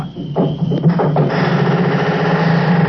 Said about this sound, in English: There it is again. That's a barn door. That's what it is. I'd know that squeak anywhere. It's that barn door out there, Lum.